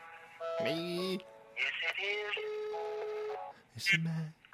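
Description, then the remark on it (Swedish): Clear telephone tones as a call is placed: a quick run of dialing beeps followed by steady, sustained ringing tones, with a brief burst of electronic chirping near the end. “Jag ringer en till jävlar.”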